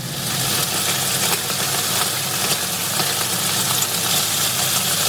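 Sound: chicken frying in oil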